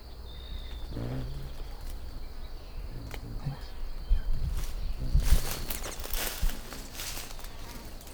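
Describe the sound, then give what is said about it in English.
A second male bird's wings whir past as he flies around, starting a shuttle display: a brief, airy buzz that swells for a couple of seconds and fades, over a low outdoor rumble with a thin steady whine in the background. “That was the buzz of him flying around.”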